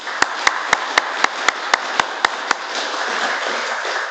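An audience applauds, a dense wash of clapping with about ten sharp, evenly spaced claps standing out over the first half, then the steady clatter carries on to the end.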